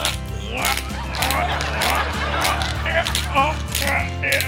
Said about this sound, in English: Dad cracks pepper on his dinner.